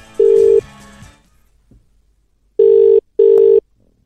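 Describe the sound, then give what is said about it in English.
Outgoing telephone ringback tones while calling a listener: a steady electronic burr repeating in short paired bursts with brief gaps, loud, following a quick burst of dialing tones at the start. “Let's press ring now.”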